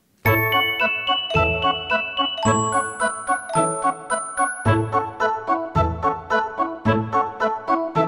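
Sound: small bell jingling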